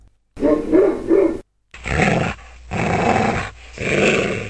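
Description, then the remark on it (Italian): A dog barks and growls aggressively in four drawn-out, snarling bursts separated by short pauses, loud, with no one talking. “Punti si slanciò contro il bengalese, abbaiando rabbiosamente e mostrandogli i denti”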